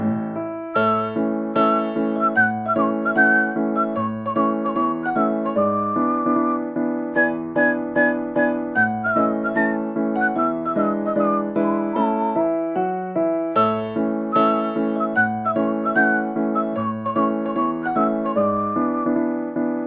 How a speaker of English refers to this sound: Oh, I never heard him talk to anybody in my life, but he's happy when he whistles this tune.